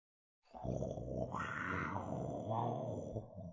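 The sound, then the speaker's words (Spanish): A lion's roar: one deep, rough, rumbling call that swells and holds for about three seconds, loud, with nothing else heard around it. “¿Un rugido de león? ¿Cómo? ¿Rugido de león? ¿Leones aquí?”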